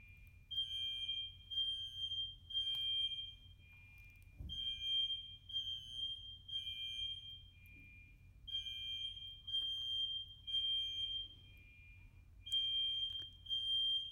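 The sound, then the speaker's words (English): A fire alarm blares early in the morning in shrill, high-pitched bursts that repeat in a steady on-off pattern, loud, over a low background rumble with no one speaking. “And in case you can't tell, the fire alarm's going off.”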